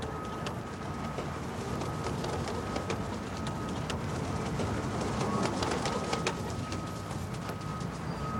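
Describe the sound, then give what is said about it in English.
Pigeons being flown on rooftops, cooing and fluttering outdoors, with scattered sharp wing claps over a steady, hissy background of wind or traffic noise; no one speaks. “Flying pigeons on the rooftops.”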